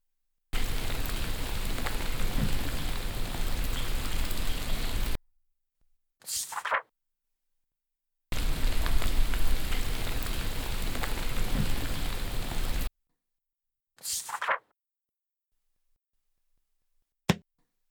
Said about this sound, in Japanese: 今日は雨ですわね。 雨がめったに降らないこの国では、雨は喜びの雨。きっと私たちを祝福してくれているんだろうね。